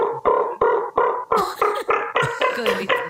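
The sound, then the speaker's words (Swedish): A boy's voice imitates a raven, giving about nine harsh, raspy croaks in a quick, steady rhythm. The calls are loud and there is no other talking. “Ja. Korp.”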